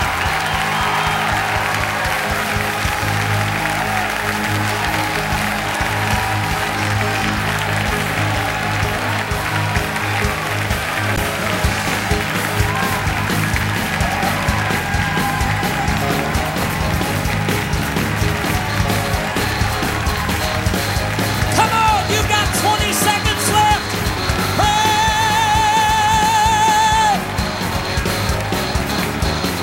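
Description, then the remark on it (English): A church audience claps and shouts in a loud, steady roar of praise to God, with dense clapping running continuously throughout and a few brighter tonal sounds rising near the end. “Clap your hands, shout, leap, jump, I don't care.”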